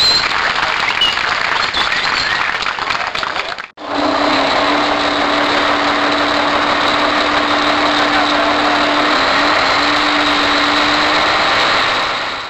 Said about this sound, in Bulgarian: плесна менче с вода пред новия камион и той измина първите си няколко метра в училищния двор, подкаран от един от преподавателите в школото.